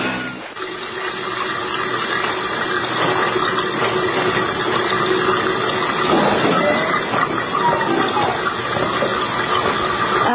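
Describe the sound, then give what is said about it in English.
A steady, continuous rush of running water from a sink faucet that was left on and has been running all day, loud, holding an even hiss throughout with no pauses and no voices. “What's up with the sink? Somebody left it on. It's been running all day.”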